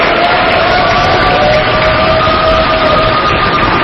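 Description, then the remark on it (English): A large crowd cheers continuously, a dense, loud roar of many voices that holds steady throughout, with no single voice standing out, as lesbian and gay couples emerge from the City Hall Registry Division waving their validated marriage license forms. “They emerged two by two, waving their validated license forms to a cheering crowd.”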